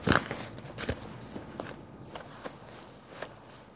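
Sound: footsteps walking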